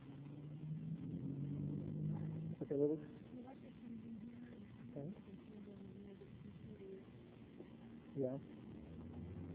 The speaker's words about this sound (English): this is Terry Andre, hybrid electric gasoline car